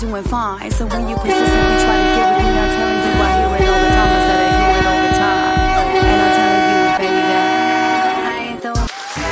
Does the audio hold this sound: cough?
no